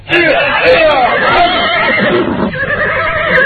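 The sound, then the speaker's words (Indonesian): A horse neighs loudly, a long, shrill whinny that wavers and trails off over a few seconds, with faint background noise and no clear talking. “Ayo kalian semua. Naik ke atas kuda.”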